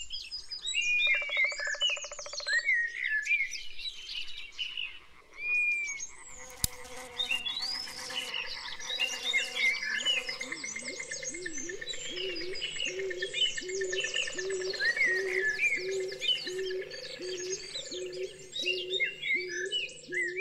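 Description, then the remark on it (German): Dense forest ambience with many birds chirping and trilling overhead while frogs croak in steady, pulsing rhythms below, a continuous layered chorus with no voices, full throughout. “Hören wir einmal in den Wald hinein.”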